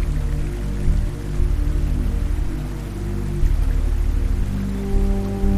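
Soft, scattered water-droplet sounds patter over a slow music track with steady, sustained electric bass notes; the drops add small rhythmic variations, with no voices present.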